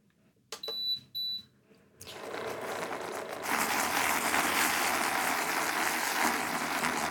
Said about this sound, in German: So, ich mache mal nebenbei hier unseren Milchschaum.